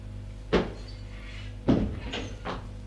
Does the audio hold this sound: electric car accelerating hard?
no